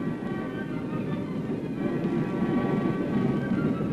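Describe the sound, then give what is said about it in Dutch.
The first train on a just-repaired stretch of railway rolls along very cautiously, a continuous low rumble with a faint metallic whine above it, even in loudness throughout, with no voices. “Die eerste trein reed nog maar heel behoedzaam over het traject”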